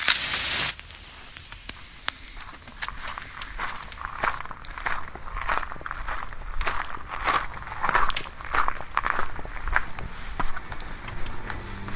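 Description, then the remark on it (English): Steady footsteps crunch across loose gravel at Halsway Manor, on the edge of Exmoor in Britain, each step a sharp, gritty scrunch in an even walking rhythm, moderately loud with no one speaking. “So here we are on the gravel at Halsway Manor, on the edge of Exmoor, one of the most delightful parts of Britain.”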